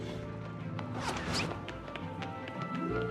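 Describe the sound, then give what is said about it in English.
Fireworks burst over icicle-like city buildings in a dense, continuous barrage of sharp bangs and crackles, with a couple of rising whistles cutting through the steady rumble; no one speaks. “Later, fireworks erupt over the icicle-like city buildings.”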